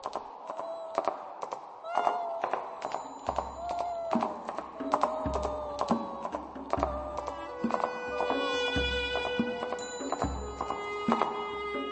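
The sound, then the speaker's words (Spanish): Sharp heel taps click across a hard floor in a steady, uneven walking rhythm, crisp, over a faint droning, tonal background. “Su fantasma recorre los pasillos del palacio y en las noches profundas se oye el taconeo de sus zapatitos en llamas.”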